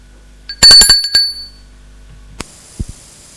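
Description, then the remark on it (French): A doorbell at a woman's home rings at 9 p.m. in a quick burst of bright, high metallic chimes that fade within a second, followed by quiet, one sharp click and a couple of soft thumps. “À 21h, il va sonner chez elle.”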